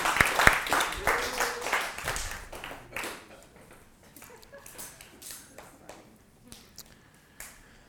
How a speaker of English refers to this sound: Let's give a round of applause for our spy and our clown. Thank you very much.